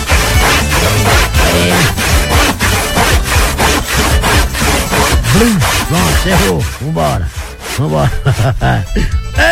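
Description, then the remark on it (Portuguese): A handsaw cuts through wood in quick, steady back-and-forth strokes, loud, with a rasping rhythm that continues throughout without any talking. “Bota o Serrote aí, meu filho. Cadê o Serrote? Tem aí?”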